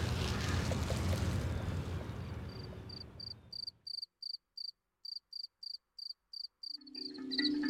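A single male cricket chirps in steady, evenly spaced, clear bursts after a loud rumbling wash of noise fades away. A low hum returns at the end.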